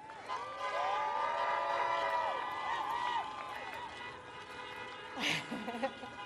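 car horns honking

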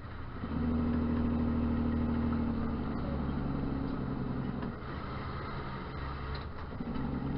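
truck engine running

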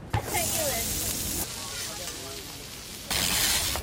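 food sizzling

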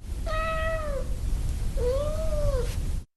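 domestic cat meowing

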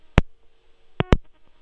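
busy tone

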